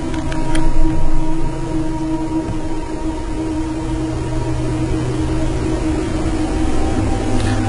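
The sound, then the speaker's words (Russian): A video game waterfall roars loudly and without pause, a dense, steady rushing wash layered with a low hum and faint sustained tones, no voices present. “Слишком громкий этот водопад.”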